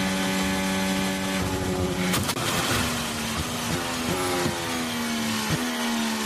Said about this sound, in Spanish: Es que salta la alcantarilla y la ha destrozado el coche.